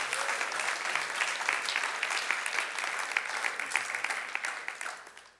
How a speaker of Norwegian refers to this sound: Så bare la oss gi dere en god applaus. Tusen takk skal dere ha.